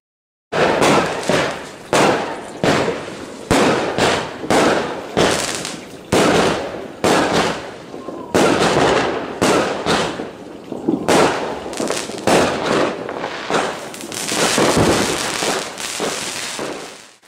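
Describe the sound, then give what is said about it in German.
Loud New Year's fireworks and firecrackers explode at the end of the year in a dense, irregular barrage of sharp bangs and crackles, continuing without pause for the whole stretch, with no voices. “Das Jahr ist vorbei. Da knallt es immer so viel.”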